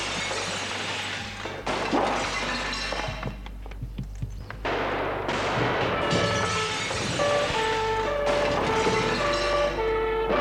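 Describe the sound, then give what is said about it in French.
Deep, muffled explosions in basements and heavy crashing impacts burst through a dense, roaring rumble, with water jets and firefighters at work, sharp thuds clustered in the middle and steady mechanical noise continuing throughout. “des explosions dans les sous-sols, les jets d'eau, les pompiers.”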